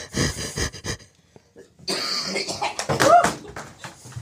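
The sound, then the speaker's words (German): Several harsh coughs in quick succession, then a short pause and a longer raspy stretch of throat clearing and phlegmy hacking. “So, Achtung, ich huste.”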